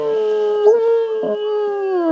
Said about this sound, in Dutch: Opnieuw draagt de wind luid wolvengehuil aan.